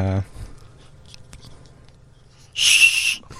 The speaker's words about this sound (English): It's a whistle? Yeah, it's a whistle. You blow through that end, and there's the whole, you know.